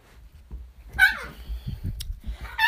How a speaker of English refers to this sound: The dogs are playing with each other. They're fine. Everyone's fine, but it is funny to watch.